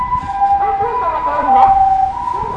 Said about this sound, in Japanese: お、救急車。